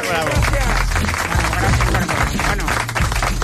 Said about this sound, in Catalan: No. Pots un aplaudiment per campus sense profes, digues.